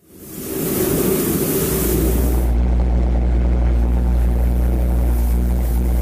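A pulse jet engine starts up and roars continuously, a loud, harsh blast with a deep droning buzz settling in underneath after a couple of seconds, with no voices.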